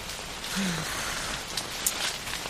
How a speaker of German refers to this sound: Was hat der Regenwind? Oh, weia, ist das laut.